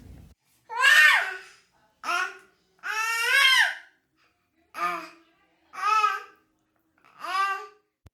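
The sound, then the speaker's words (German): A baby who has just woken up cries downstairs in six separate wailing bursts, each a rising and falling high-pitched cry with short pauses between. The cries are fairly loud, with no talking. “Ich höre es nämlich von unten weinen.”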